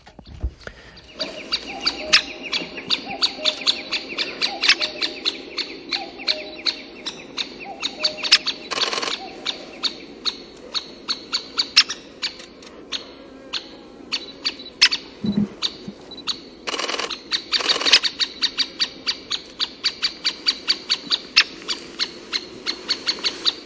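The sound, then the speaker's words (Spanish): A great spotted woodpecker calls with sharp, high, clipped notes repeated steadily, with a few longer, harsher bursts mixed in, and no voices. “este es este sonido que nos ha facilitado Santi Vázquez para ver cómo suena este pájaro”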